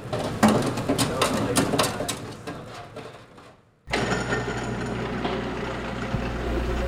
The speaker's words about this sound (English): Like they should be tree frogs in the Amazon or something. Whenever reporters are out listening to noises, should be more interesting than our car lift.